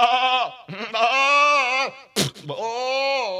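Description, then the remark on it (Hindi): A voice imitates a goat's bleat in three drawn-out, wavering calls, loud and close, with a brief harsh burst between the second and third. “एक काम करता हूँ, मैं अपने बकरे को बुलाता हूँ और जहाँ तुझे उसने दांत काटा है ना, मैं वहाँ उससे एक बार और दांत कटवा देता हूँ, तेरा सारा दर्द दूर हो जाएगा।”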